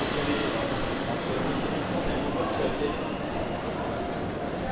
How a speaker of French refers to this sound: c'est un peu une deuxième maison la gare, donc le bruit des trains